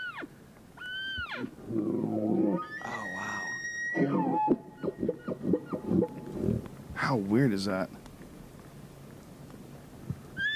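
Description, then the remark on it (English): Several elk calls, including a male elk's, ring out as high, squealing whistles that rise and fall, some long and wavering, with people talking and reacting between and over them. “That's an elk making noise.”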